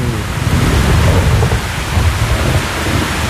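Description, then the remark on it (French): Steady, loud rain pours down at night with a deep rumble of thunder rolling underneath, a dense continuous wash of storm noise with no voices. “On va écouter l'orage et la pluie, là.”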